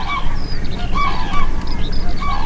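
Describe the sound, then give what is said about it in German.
Common cranes call repeatedly in loud, trumpeting bursts, several birds overlapping in a steady chorus over a low, constant outdoor rumble, with no voices present. “Im Frühsommer sieht man dann vom Hochstand aus mit dem Fernglas die Kranichfamilien mit ihren Jungen.”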